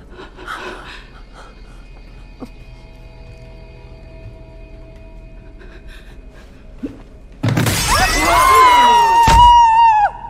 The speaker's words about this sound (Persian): نگهبان یه مهره شطرنج رو از ماکت پرت کرد پایین. توی ردیف سمت چپ دو تا شیشه شکسته شده.